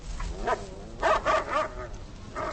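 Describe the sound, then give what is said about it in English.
A dog named Lightning barks in short bursts, one bark, then a tight cluster of three or four quick, mid-pitched woofs, followed by a softer yip near the end, fairly loud with no voices. “Lightning is a dog.”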